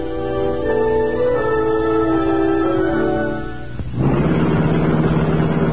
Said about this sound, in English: The sleek black car of the Green Hornet slid through the darkened back streets of the city like a purring shadow.